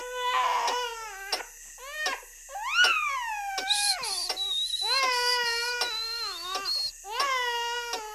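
baby crying

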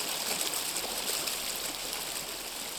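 river water flowing

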